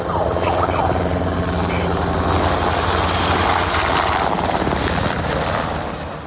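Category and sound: vehicle, helicopter flying overhead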